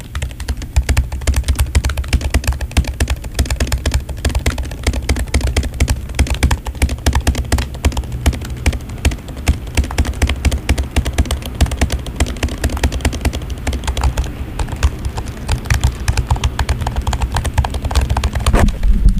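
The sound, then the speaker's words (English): Rapid, uneven clatter of keyboard keys struck at random, typing into a web browser's address bar, a dense stream of loud clicks with no pauses and no voices. “No, I'm just hitting random keys.”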